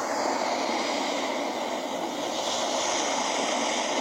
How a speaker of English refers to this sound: The ocean. I love that setting.